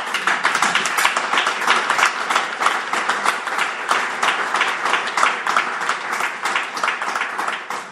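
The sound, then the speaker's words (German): Sustained audience applause during a speech of thanks to local council head (Ortsvorsteher) Kipp, a dense, even roar of many hands clapping that holds steady at full strength for the whole stretch, with no voices coming through. “Applaus war vor halbzeit später vorgesehen, also ist kein Problem.”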